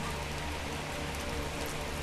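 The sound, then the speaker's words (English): Steady rain falls throughout, a dense, even hiss of drops pattering on a surface with a low rumble underneath. It sounds continuous, with no voices. “And now I'm talking over the sound of rain.”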